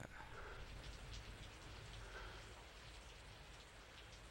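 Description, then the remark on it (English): Steady rain falls continuously in Vancouver, a dense hiss of drops pattering on a surface with faint low rumble underneath, evenly loud throughout and with no voices. “But for now, there is no better way to wrap it up rather than tears in the rain in the rainy Vancouver.”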